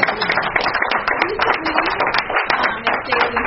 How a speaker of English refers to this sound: The representation that we have here on the board, I just wanted to applaud them again.